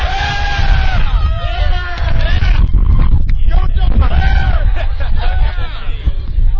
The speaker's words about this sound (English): You know, I've realized that we don't really need to do the radio show. We can just put the microphone out by these guys and just let them holler.